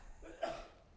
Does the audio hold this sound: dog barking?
no